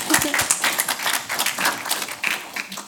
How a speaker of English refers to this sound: And if we could just give her one more round of applause for the great job she did.